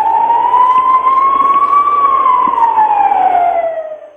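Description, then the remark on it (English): A loud police siren wails in one slow sweep, rising in pitch and then falling away, steady with a faint rumble beneath, and no one speaking. “Siren. I hope they're coming to arrest you, pieces of...”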